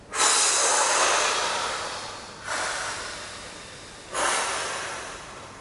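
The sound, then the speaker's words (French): A long, slow, airy exhalation during a breathing exercise, after holding the breath with gentle tension of the whole body, followed by two shorter breaths that each fade gently, with no talking. “On bloque la respiration, tension douce de tout le corps. Expiration.”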